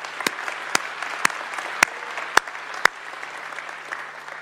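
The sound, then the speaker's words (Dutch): A church audience gives warm applause for the young people who serve with their talents, steady clapping from many hands, with a few sharper individual claps standing out over the continuous patter. “Ik zou zeggen, zullen ze even een warm applaus geven?”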